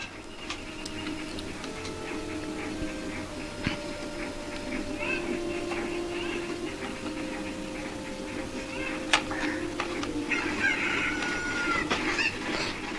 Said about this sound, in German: Die hat doch nur zwei Hühner noch verloren. Wo sind denn die anderen? Wo sind denn die anderen? Papa, wo sind denn die anderen Hühner? Die müssten doch da hinten sein.